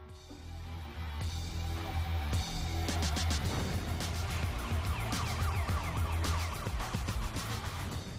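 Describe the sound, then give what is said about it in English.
Loud, driving soundtrack from an anti-piracy public service announcement, with pounding beats, bright stuttering electronic stabs and wailing siren-like tones, running continuously for several seconds with no speech. “They mostly relied on vague threats and public service announcements like this one.”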